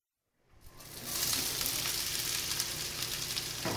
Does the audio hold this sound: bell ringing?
no